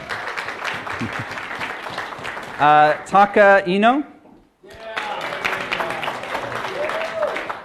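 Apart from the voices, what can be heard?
audience clapping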